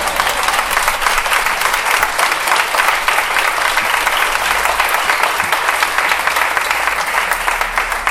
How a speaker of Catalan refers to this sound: Sí, podeu aplaudir, eh?